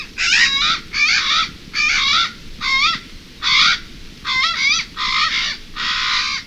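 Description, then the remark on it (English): A Hawaiian crow (Alala) gives about nine loud, harsh, raspy caws in a steady series, each short and rough, over a constant low rumble of background noise, with no one speaking. “While a previous attempt to return Alala to the wild came up short, we await the day when conditions are right to bring the sacred raven back to its forest.”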